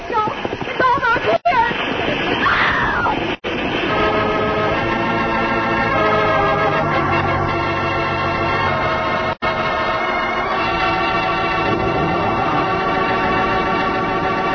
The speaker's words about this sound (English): The water.